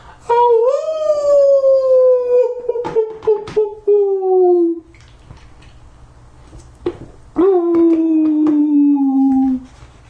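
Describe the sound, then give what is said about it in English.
A woman lets out two long, eerie howls that rise and then slowly sag in pitch, the first stretching about four seconds amid sharp clicks, the second shorter after a quiet pause. Loud, with no talking. “She raised her head and let out a ghostly howl.”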